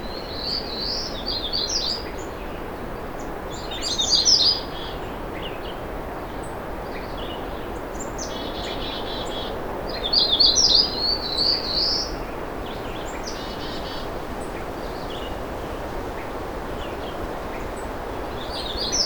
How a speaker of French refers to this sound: Le vent est presque continu et balaye le sommet des arbres alors que le chant des petits oiseaux se fait discret.